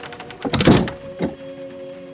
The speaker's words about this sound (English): He bolts the doors behind her.